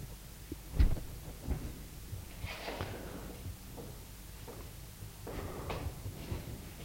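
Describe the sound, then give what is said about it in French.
A man standing on a chair sets a suitcase down on the floor with a dull thump, followed by softer knocks and bursts of rustling and shuffling as it is handled and he climbs down from the chair. “Il met la valise à terre et descend de la chaise.”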